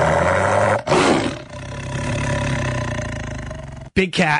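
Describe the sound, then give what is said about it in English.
A loud big cat roar sound effect rumbles and growls for several seconds, with a brief pause and a second short burst of roaring at the end. “Big cat alert.”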